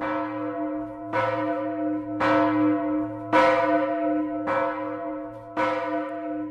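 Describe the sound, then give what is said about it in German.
A large church bell, the Lullusglocke in Bad Hersfeld, cast in 1038, over 1 meter in diameter and Germany's oldest datable cast bell, tolls five times at a slow, steady pace, each strike ringing out with a rich, humming tone that lingers and overlaps the next. No voices. “Fast 1000 Jahre alt ist dieser Klang und so klingt sie auch heute noch, die Lullusglocke in Bad Hersfeld, die älteste datierbare gegossene Glocke Deutschlands.”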